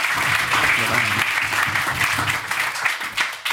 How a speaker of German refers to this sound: Einen fetten Applaus für den coolsten Gastronom hier in Bottrop.